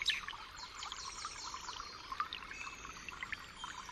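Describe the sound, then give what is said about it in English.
A flock of birds roosting in a tree chirp and twitter in a steady, overlapping chorus over the continuous bubbling and trickling of a creek in a forest in spring, with no voices present. “I'm sitting in this majestic forest right now, beneath a flock of birds roosting in this tree, and besides a shining, shimmering, bubbling creek.”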